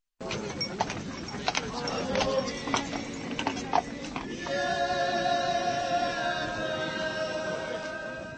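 Scattered hooves of a white horse ridden by Saint Martin clop on a hard street in Uherské Hradiště, South Moravia, Czech Republic, as the young wine arrives on 11 November, amid a murmuring outdoor crowd; then sustained musical tones swell in and carry on steadily over the background bustle.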